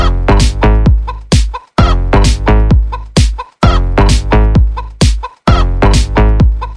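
A chicken clucks loudly in rapid bursts of sharp, harmonic calls grouped into four runs separated by brief pauses, with no other sounds.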